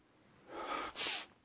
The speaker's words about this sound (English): now that I've coughed, I'm going to sneeze.